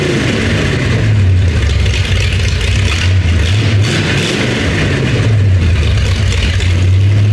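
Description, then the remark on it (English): A car engine revs loudly and steadily, its low rumbling pitch climbing and dipping a few times as the throttle opens and eases off, with no voices over it. “Let's begin with the first car my dad bought me.”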